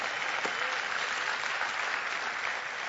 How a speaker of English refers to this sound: Yes, and thank you for your applause, but you need to read.